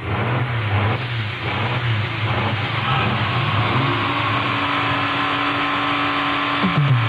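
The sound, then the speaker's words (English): Loud, continuous roar of experimental race car engines revving at high RPM, with steady droning tones and a brief pitch sweep near the end as one passes by. “These $1 million experimental cars have something in common with your family sedan.”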